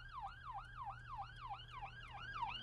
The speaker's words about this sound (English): That was an ambulance, not a cop. I'm at a stoplight. Thank you very much. Oh, there's another one coming. Oh, it must be a fire.